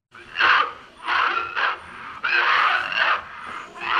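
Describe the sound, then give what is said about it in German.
A man coughs over and over in harsh, raspy fits, each burst rough and wheezing, with brief gasps between them and no talking. From Christian Boltanski's 1969 short film 'The Man Who Coughs' (Der Mann, der hustet), heard at the start of an exhibition of his work. “Mit diesem Geräusch beginnt die Ausstellung. Man hört es, bevor man noch das Bild sieht. Ein Kurzfilm, Der Mann, der hustet, von 1969.”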